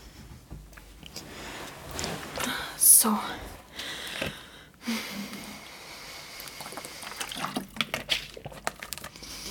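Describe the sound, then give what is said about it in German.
A person pours themselves water in short, uneven splashy bursts, with a sharp clink near the start, while a soft whispering voice is faintly heard underneath. “Ich hole mir mein Wasser.”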